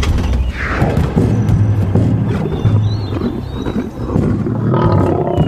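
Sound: lion roaring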